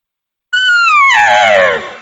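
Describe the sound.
An imitation bull elk bugle made with a bugle call, with no growl: one high, whistling squeal, about a second and a half long, that slides downward in pitch and turns raspier at the end. It is loud, with no talking.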